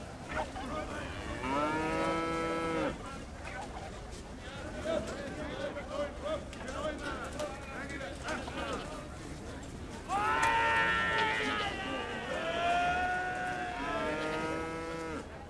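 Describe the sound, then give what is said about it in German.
Cattle mooing amid a market crowd where livestock dealers haggle over calves and young horses: a long, drawn-out moo early on, then a louder run of overlapping moos and bellows later, with murmuring voices underneath throughout. “Viehhändler feilschen um Kälber und Jungpferde.”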